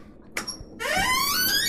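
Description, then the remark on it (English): A basement door swings shut on its hinges: a brief click followed by a long, rising, squealing creak that grows loud and steady as it swings, with no voices. “The door's shutting.”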